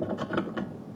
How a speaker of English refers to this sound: It's the sound of doors being opened.